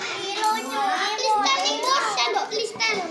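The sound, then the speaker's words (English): A group of kindergartners in Indonesia chattering all at once over a free school lunch of fried chicken, rice, tempeh, mixed vegetables and watermelon, high-pitched overlapping voices filling the whole stretch at a steady, lively level with no pauses. “This includes the lunch served to this group of kindergartners you're listening to now.”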